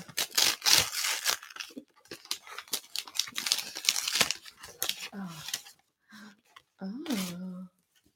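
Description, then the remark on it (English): Wrapping paper printed with seagulls or doves crackles and rips in a dense flurry of crinkles and tears for about five seconds, followed by a few short voiced sounds as the rustling fades. “Can I just say it's got lovely seagull wrapping paper.”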